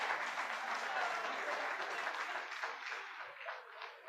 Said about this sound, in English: Big round of applause.